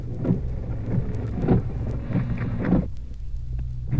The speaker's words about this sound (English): Pretty wet, heavy rain.